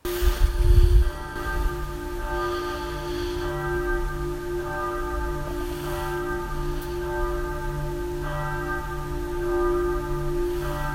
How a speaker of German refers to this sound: Das ist die Glocke, die ein berühmter Glockengisser gemacht hat